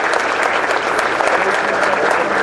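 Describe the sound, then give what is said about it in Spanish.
Steady, dense applause from a crowd, many hands clapping at once in a loud, continuous wash of sound that holds evenly for a couple of seconds, applauding the children taking part as school representatives in a 'niños y niñas en el gobierno' event, serving as public servants for the day. “Un aplauso para todos los niños dignos representantes de cada una de las escuelas que están hoy como servidores públicos.”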